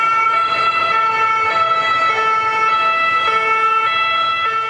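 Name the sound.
ambulance siren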